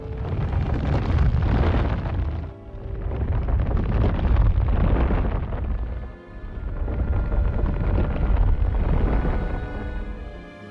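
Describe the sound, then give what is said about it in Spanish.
A huge rock splits open down the middle at the command "Open Sesame", with a deep, grinding rumble that swells and eases in three long, loud surges, heavy in the low end with a rough, crackling texture, and no voices. “«¡Sésamo, ábrete!», gritó el jefe de los ladrones a la roca, y, para asombro de Alí Baba, la roca se abrió por el medio.”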